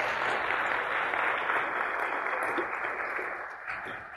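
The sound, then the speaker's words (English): A church audience applauds steadily, giving God a hand clap, many hands clapping together in a dense, continuous wash that stays loud throughout before easing slightly toward the end. “So let's give God a great hand clap for that.”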